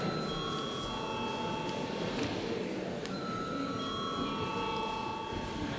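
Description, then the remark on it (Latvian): An electric bell rings continuously for several seconds, a steady, buzzing metallic clangor with bright ringing overtones and no break in volume, with no voices over it. It is a parliament voting bell, rung before members vote on granting urgency to a bill. “Saskaņā ar kārtības rulis pirms mums jābalso par steidzamības piešķiršanu likumprojektam. Lūdzu zvanu.”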